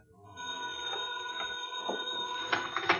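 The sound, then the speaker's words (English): A pay phone's bell rings in a pay booth at night, one sustained, shrill metallic burst lasting a few seconds, clear, with no voices over it. “Well, look, you can just let it go and it'll stop ringing. Who calls a pay booth this time of night?”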